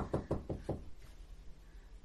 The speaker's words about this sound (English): Well, it sounds like Mara's knocking on a door, so...